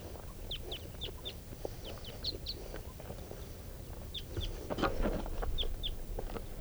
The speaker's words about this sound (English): Well, those same wild birds are coming back, just flew over.